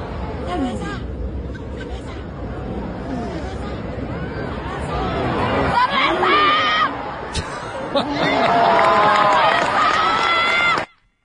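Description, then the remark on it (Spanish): A large stadium crowd at the Rafael Nadal versus Casper Ruud exhibition tennis match in the Plaza de Toros, Mexico, roars and chants in a dense wall of overlapping voices, with a vendor shouting his product over the din, swelling louder toward the end before cutting off abruptly. “Bueno, por otro lado tenemos este cántico que se escuchó, este grito de dolor que se escuchó en el partido de Rafael Nadal contra Casper Ruud, partido de exhibición en la Plaza de Toros, México, que me llegó hasta lo más profundo del alma.”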